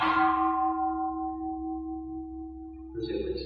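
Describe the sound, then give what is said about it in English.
A single deep bell or gong is struck and its rich tone hums on steadily, slowly fading as the resonance lingers, before a soft rustle at the end. “Let's listen to the bell, the gong.”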